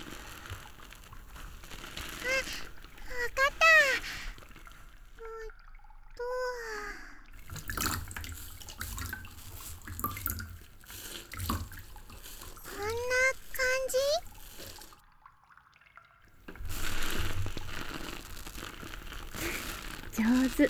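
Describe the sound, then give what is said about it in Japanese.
Wet, squishy soap lather being whipped right beside the ear, a soft crackling froth that comes and goes in bursts, with brief vocal sounds rising over it and a short quiet gap. “耳元で泡立ててお耳も楽しませて差し上げるのですね。”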